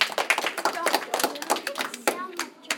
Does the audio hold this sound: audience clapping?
yes